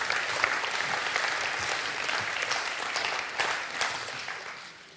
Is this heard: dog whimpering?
no